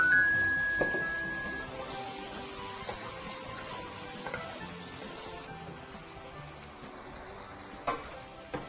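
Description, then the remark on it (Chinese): Steady sizzling and bubbling of food braising in a covered pan after shiitake mushroom soaking water, rice wine and soy sauce were added to a dish with pineapple, a continuous hiss with a few small clicks and knocks, and no voices. “然后这时候呢我们可以把锅盖盖起来，让它焖一下，让它焖一下。”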